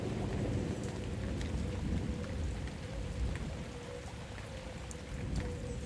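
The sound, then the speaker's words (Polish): Steady, heavy rain pours down during a thunderstorm in a forest, recorded from under a small roof, a dense continuous hiss with scattered sharper drops striking surfaces and a deep low rumble underneath. “Ambient puszczy, rzek, burza i tak dalej, właśnie żaby, ptaki.”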